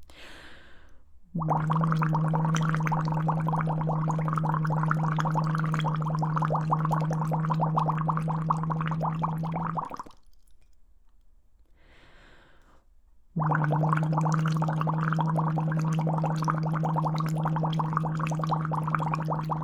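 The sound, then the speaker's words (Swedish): A low, steady hummed 'O' voiced through a straw lowered 1 cm under the water surface in a half-filled water glass, on fairly low tones, with continuous bubbling gurgle, held in two long stretches separated by a brief quiet pause. “Sänker ner sugröret 1 cm under vattenytan så ska vi säga O i sugröret.”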